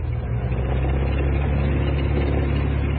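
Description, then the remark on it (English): A light aircraft, call sign Oscar Sierra, idles steadily before takeoff, its engine a continuous low drone with a rough, even throb that holds constant throughout, with no voices. It is piloted by a retired Air Commodore in his mid-70s. “In his mid-70s, retired Air Commodore Michael Swinney is back at the controls and ready for takeoff.”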